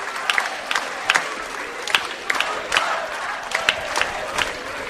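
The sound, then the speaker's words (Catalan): A large crowd at the opening speech of the Festes de Gràcia in the Gràcia district shouts rhythmic chants for independence, freedom and political prisoners, sharp collective cries landing in a steady beat over a constant roar of many voices, loud throughout. “I així van començar les festes de Gràcia, amb crits d'independència i llibertat, presos polítics.”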